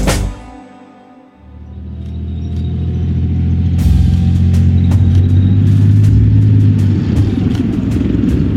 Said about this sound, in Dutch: Het gebrom van de motor en het geluid van de rupsbanden over ruig terrein van een tank Leopard 2. De Leopard 2 is een zware gevechtstank waar 4 bemanningsleden voor nodig zijn om te besturen en te bedienen.